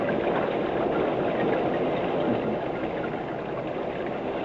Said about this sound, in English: It's starting to rain. I hope they find shelter somewhere.